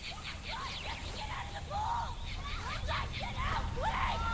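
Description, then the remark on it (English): Several people by a pool scream and shout over one another in overlapping, rising and falling cries, sustained, with a steady background rumble underneath. “Hearing the screams, … runs to find …, … and … standing by the pool.”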